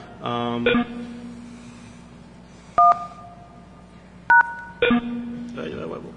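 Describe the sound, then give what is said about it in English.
Two short DTMF telephone keypad tones beep about a second and a half apart as a softphone dials a PBX directly over SIP, with brief electronic tone bursts around them over a steady low hum and faint background voices. “gonna call the PBX using a soft phone, so it's gonna be SIP directly to the PBX”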